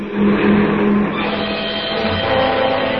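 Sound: car approaching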